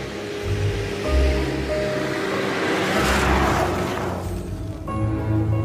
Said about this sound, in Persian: ماشین وارد مسیر خاکی میشه که به باغ آقای داوودی ختم میشه.